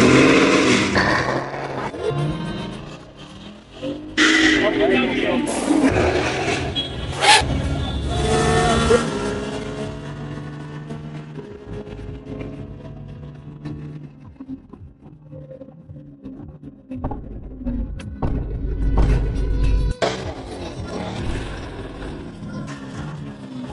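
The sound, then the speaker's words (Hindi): A Ford Mustang's powerful 5.0-litre (5000 cc) V8 engine, producing 400 PS, revs hard in loud, rising bursts for about ten seconds, then drops to a lower, steadier rumble with occasional sharper blips. “car नहीं हाहाकार है, इसमें लगा हुआ 5000 सीसी का इंजन 400 PSP की पावर प्रोड्यूस करता है, और ये महज 4.3 सेकंड में हैंडल टच कर लेती है”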